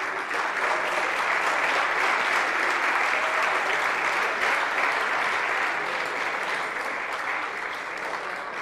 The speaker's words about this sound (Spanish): Yo creo que le demos otro aplauso, ¿no? Se lo merece, ¿verdad?